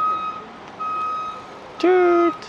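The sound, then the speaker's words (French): A truck's reversing alarm sounds two long, steady high-pitched beeps with a gap between them, followed by a louder, lower electronic tone near the end. No one speaks. “please wait. Your truck is moving.”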